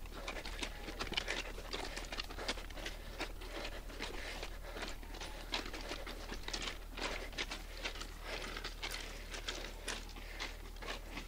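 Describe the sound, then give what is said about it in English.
Steady, brisk crunching footsteps on loose train-track gravel as a person walks along the side of a train track, with a continuous rhythmic scuffing and no one speaking. “It's really hard to walk on this gravel, train track gravel.”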